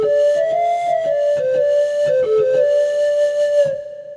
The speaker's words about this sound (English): All kinds of much more contemporary sounds, some synthesized, some not. And you have things like pan flutes.